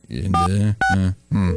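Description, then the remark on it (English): A telephone rings down the line during a prank call to Bill's Bolarama: three quick, buzzy electronic ring bursts in close succession, steady in pitch and fairly loud, with a thin, phone-filtered quality. “Oh, it's ringing.”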